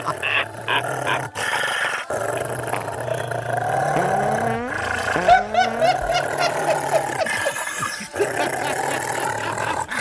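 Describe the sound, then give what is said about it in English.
A dog barks loudly and repeatedly, mixing raspy barks and snarling growls with a few higher, rising yelps, filling the whole stretch with dense, agitated noise and no talking. “I'd like to hear a fart and a dog barking.”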